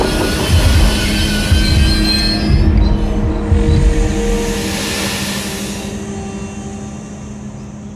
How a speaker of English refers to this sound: The driver pulls the emergency brake, stopping a 300-ton train quickly is impossible. It screeches down the straight track.